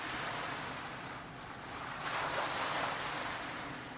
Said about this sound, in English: The waves calming, peaceful, rhythmic. Looking to these waves of the ocean, this continuous flow, just like your breath.